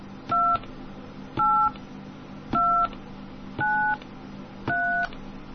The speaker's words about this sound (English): Please enter the 16-digit number from Group A, B, and C using the keys or rotary dial on your phone. Please enter these numbers slowly. All right, I'm going to try this again. I'll enter them slowly.